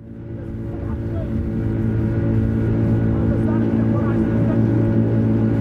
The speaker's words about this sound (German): Der Motor dröhnt. Das kippelige Holzboot von Ahmed schießt mit einer beängstigenden Geschwindigkeit über das braune Wasser des Schatt al-Arab.